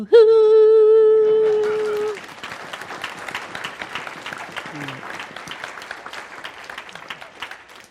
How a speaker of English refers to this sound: Keep clapping, I have like 45 more minutes.